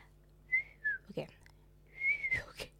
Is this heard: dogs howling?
no